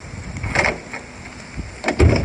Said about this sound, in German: Und das Aufschließen an sich, das ist ja schon wirklich so ein ganz typisches Geräusch. Also das klingt ja schon wirklich ganz, ganz E46 spezifisch. Einfach dieses Aufschließen.